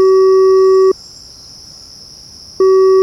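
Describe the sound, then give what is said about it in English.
A steady, high insect trill like crickets fills a quiet, dark night in the woods, while a loud electronic tone sounds at the start and returns near the end. No one speaks. “I've actually managed to get lost in some nearby woods. It's really dark.”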